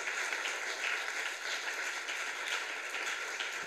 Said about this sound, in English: So can we please give them a round of applause, because we need to honour that.